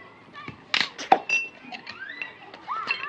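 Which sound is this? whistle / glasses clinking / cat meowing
glasses clinking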